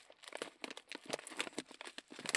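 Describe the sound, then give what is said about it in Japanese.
Crisp crinkling of plastic packaging being handled and pulled open, a dense run of irregular crackles and rustles with a few sharper snaps, no voices. “では早速開けてみたいと思います。”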